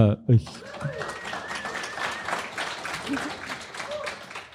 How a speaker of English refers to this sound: Who gives a round of applause for philosophers.